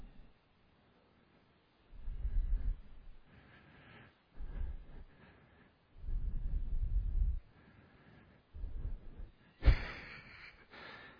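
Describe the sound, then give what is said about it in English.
Audible breathing right into the microphone during a backwards breath meditation: three slow exhale-and-inhale cycles, breathing out first, with short pauses between them, the last in-breath sharper and hissier. No one speaks. “Close your eyes and breathe out first. Out-in, out in, out in.”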